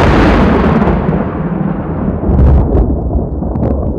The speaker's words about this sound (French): À peine était-il revenu au palais que l'orage éclata.